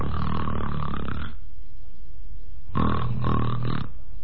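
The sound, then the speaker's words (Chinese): A storyteller's male voice imitates loud snoring: two long, rasping snore sounds separated by a quiet pause, forceful, with no other talking. “瞪着眼睛又打上呼噜了。”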